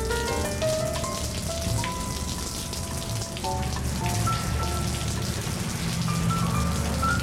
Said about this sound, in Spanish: El tipo ideal para acompañarnos en una tarde lánguida, en esas tardes en las que llueve sobre los jardines y también sobre nuestros corazones.